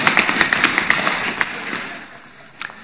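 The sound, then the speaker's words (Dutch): A group of people imitates an earthquake, making a dense, noisy rumble of tapping, drumming and rustling with sharp irregular knocks, loud at first and gradually dying down with a last few taps. “Zullen we met elkaar eens kijken of we een aardbeving... Nou, niet... of we een aardbeving kunnen nadoen, het geluid?”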